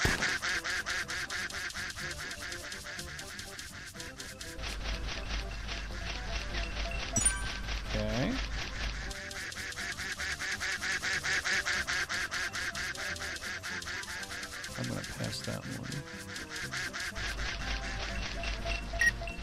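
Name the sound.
video game duck quacking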